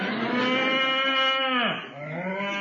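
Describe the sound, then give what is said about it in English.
A cow gives a long, loud moo, its drawn-out bellow dipping in pitch midway before trailing off into a lower groan. No one speaks. “Real cowhide. Made a bit of a noise. Well, it's still on the cow.”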